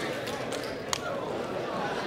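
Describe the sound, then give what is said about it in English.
Several sharp hand slaps ring out at irregular moments, one louder than the rest, as audience members at a religious service trade high fives over a steady murmur of crowd chatter. “A high five about two people and tell them, get ready for the word of the Lord.”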